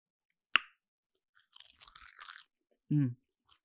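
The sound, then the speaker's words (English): A sharp crisp bite into a seaweed snack, then about a second of dry, crackly crunching, ending with a brief low hum and a tiny final click. “So flavorful. It's like the ocean's chips.”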